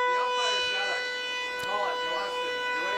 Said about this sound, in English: So a really big siren is remaining here.